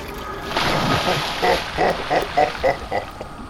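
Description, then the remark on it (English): Water splashing as a Cyclops swims in his sacred water: a steady wash of watery noise, then a run of six or so rhythmic splashes that rise and fall like regular strokes. No one speaks. “Another fine day, swimming in my sacred water.”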